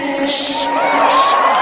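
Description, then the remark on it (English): A crowd cheers and yells loudly and continuously, with voices overlapping and two bright bursts of whooping noise rising above the din. “Stop yelling at people.”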